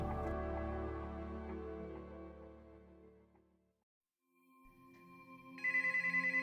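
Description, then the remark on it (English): A desk telephone rings with a bright, ringing tone that fades, falls silent briefly, then starts ringing again with a sharper edge. Fairly clear, with no voices. “It's a relief when his desk phone rings.”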